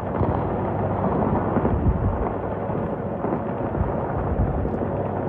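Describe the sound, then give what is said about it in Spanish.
Bombs explode in the Strait of Hormuz: a loud, continuous low rumble with heavy booms rolling into one another, steady throughout with no voices. “Este es el sonido en el estrecho de Hormuz, el lugar por el que cruza una cuarta parte del petróleo mundial y en el que vuelven a sonar las bombas.”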